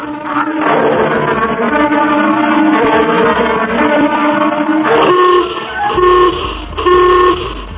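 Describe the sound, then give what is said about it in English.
A loud, blaring general alarm klaxon calling personnel to emergency stations, condition red, sounds in one long continuous blast, then breaks into several shorter repeated honks, harsh and buzzy with no voices. “General alarm. General alarm. Emergency stations.”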